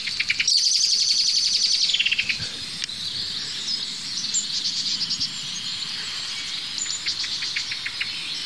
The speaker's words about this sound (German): Jetzt schimpfen die Meisen da hinten, da werde ich mal hingehen. Die Amsel ist immer noch aufgeregt, wie ihr hört.